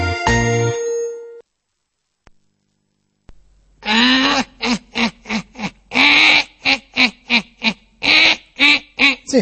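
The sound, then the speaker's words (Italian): A brief electronic chime opens, then after a pause a parrot lets out a rapid series of loud, harsh squawks and chattering calls, repeated in quick bursts. “Tu sei un pappagallo e devi parlare, non puoi fare versi come gli altri uccelli, capito?”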